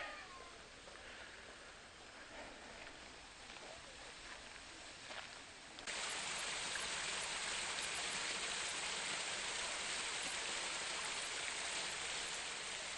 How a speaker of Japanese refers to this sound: さあ、今ね兼六園の中を流れます、こうまあ川のね音を聞いていただいてるんですが、まあ川があって池があってね、滝みたいなのがあるんですよ。